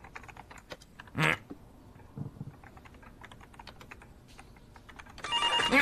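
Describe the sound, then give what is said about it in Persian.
Steady keyboard typing clicks away, then a loud electronic telephone ring bursts in at the very end, bright and insistent, as Mr. Brown calls the office. No one speaks. “آقای براون داره زنگ میزنه. خب شروع کن جواب بده.”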